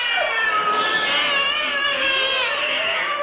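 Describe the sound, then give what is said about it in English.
A crowd of cats meows and yowls all at once, a loud, dense, continuous chorus of overlapping wails with no pauses and no talking. “But the main herd of police cats finally led us to Billingsgate.”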